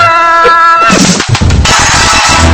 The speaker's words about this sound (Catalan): aquell animal del gènere aviar que a mig informatiu interromp la sintonia, en cap cas va ser planejat o guionitzat